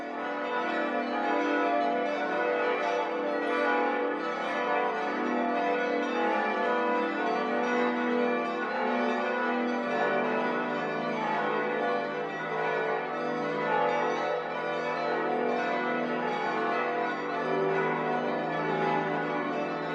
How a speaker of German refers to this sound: Glocken läuteten die Weihnacht ein.